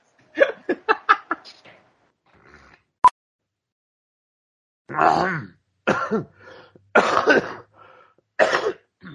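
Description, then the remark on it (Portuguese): A rapid string of short throat-clearing hacks, a single sharp click, then several heavy, rough, phlegmy smoker's coughs in separate bursts, fairly loud, with no talking. “Aquela tosse cremosa, sabe? De um Marlboro e meio por dia no carnaval.”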